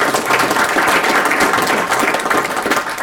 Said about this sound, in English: Can we give a hand to that? Yes.